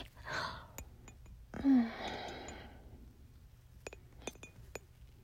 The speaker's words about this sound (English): Drag it up and down. I don't know if you can hear it clinking against my teeth